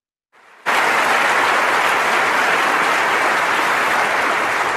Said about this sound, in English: He just told us we lost, and we're applauding.